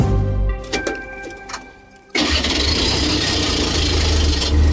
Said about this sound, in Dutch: Voilà, die diesel is in gang getrapt. Een geluid dat langzaam aan het uitsterven is.